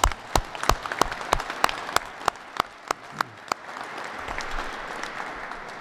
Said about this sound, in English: I'd like to a round of applause for you all.